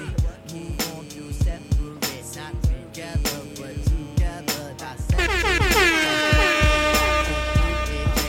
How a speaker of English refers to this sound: I know you don't like that air horn sound, but it's a very special occasion, so welcome.